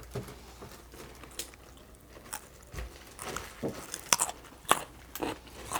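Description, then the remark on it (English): Someone bites and chews a raw carrot while taste-testing and scoring carrots, with a series of crisp, irregular crunches spread over several seconds and no talking. “Good crunch on there.”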